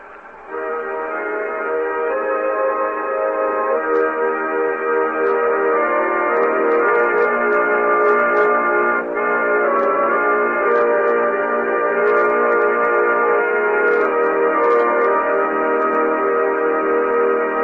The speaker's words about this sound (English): Remember, listeners, that this organ is being operated by a vacuum cleaner.